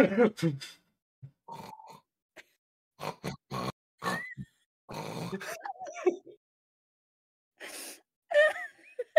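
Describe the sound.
A voice imitates a person's snoring with a series of loud, grunting, pig-like snorts and throaty rasps, broken by short pauses and a few breathy moans, unaccompanied.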